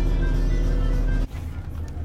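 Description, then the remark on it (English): Steady low engine drone and rumble from inside a moving public bus, loud, then the engine noise abruptly drops to a softer hum partway through. “Okay, right, well, we'll continue to the next stop on the public bus, which is making me laugh because it has words woven into the design of the seats, which says friendly and smile.”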